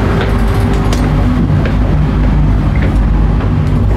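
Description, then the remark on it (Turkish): A steady, loud low-pitched engine drone inside a new passenger ferry, constant throughout with a faint rumble and occasional light knocks. “Bu yeni vapurlara giriyorum.”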